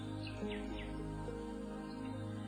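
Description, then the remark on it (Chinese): Small birds chirp in a few quick, bright bursts over a steady low hum, the calls fairly soft and clustered near the start before thinning out. “这一次，飞来了更多的小鸟。”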